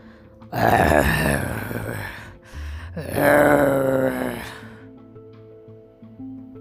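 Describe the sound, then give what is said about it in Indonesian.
Two long, rasping growls from a creature lifting its head, each lasting over a second with a rough, guttural texture, separated by a short pause, then fading into a low steady hum. The creature stands at a street crossroads in moonlight. “Sesekali kepalanya mendongak dan mulutnya mengeluarkan suara serak.”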